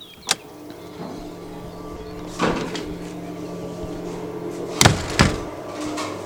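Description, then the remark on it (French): The door of Graine d'Adine in Quintenat is pushed open at 6 a.m. with a sharp clunk, followed a couple of seconds later by a softer rattle and then two quick thuds, over a steady low mechanical hum. No one speaks. “Le clocher de Quintenat sonne 6h, je vais pousser la porte de Graine d'Adine.”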